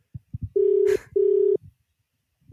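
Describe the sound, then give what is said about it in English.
A phone call ringing out: a few soft low clicks, then two steady, fairly loud buzzing rings of matching length, separated by a short gap, with no voices. “Maybe he knows why we're calling. If there's voicemail, we'll leave a message.”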